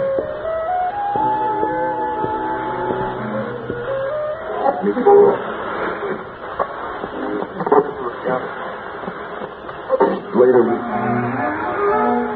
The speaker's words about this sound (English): But as soon as she'd made her peace with the radio, the interference began. Oh, dear.